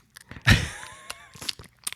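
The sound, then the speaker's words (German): A voice imitates a baby smacking its mouth on banana mush: a loud wet squelch, then a string of softer sticky clicks and smacks with a faint hum running underneath. “Ja, also er macht dann gerne den Mund auf und dann hörst du dieses typische.”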